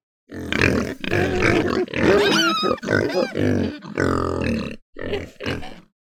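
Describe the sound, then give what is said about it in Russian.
A wild boar grunts and snorts in a winter forest in a run of about six loud, rough bursts, some rising into squealing tones, with only brief pauses between them. “Да, это кабан.”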